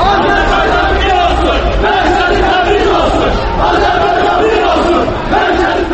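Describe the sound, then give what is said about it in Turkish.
A large crowd of Azerbaijani protesters chants and shouts together outside the Iranian embassy in Baku, Azerbaijan, in a loud, steady roar of many voices, with rising collective cries throughout and no clear individual speech. “Bugün Bakıda bir qrup azərbaycanlı İranın Bakıdakı səfirliyi qarşısında etiraz aksiyası keçiriblər.”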